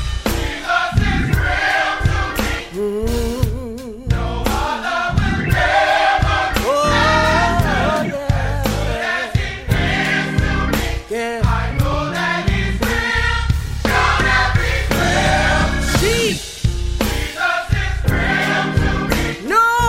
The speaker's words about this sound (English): Come on, let's praise Him. Come on, let's clap our hands and lift our voices. Come on, cry, tell Him. Sing it for me now.